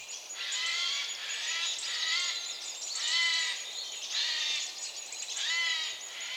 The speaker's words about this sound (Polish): Jeszcze sójka do tego doszła ze swoim zgrzytaniem. Ona w tej drugiej połowie wiosny już się za bardzo nie odzywa, więc jeżeli już do tego dojdzie, znaczy, że też się denerwuje.